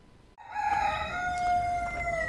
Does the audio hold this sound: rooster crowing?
yes